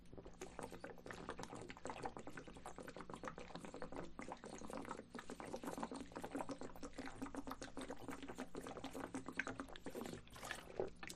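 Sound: pouring and drinking water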